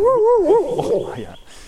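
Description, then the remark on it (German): A dog that has caught a scent whimpers and whines in a high, wavering tone that rises and dips for about a second, then trails into rougher, breathier sounds. “Da hatte Patricks Hund tatsächlich was gewittert”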